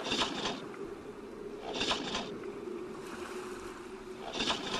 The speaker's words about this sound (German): Der Motor startet nicht.